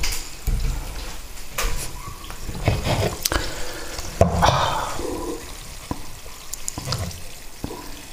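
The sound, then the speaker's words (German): Sparkling mineral water fizzes, a steady crackling hiss broken by scattered sharp pops and clicks, with a brief louder gush midway and no voices. “Sprudelnde Quelle.”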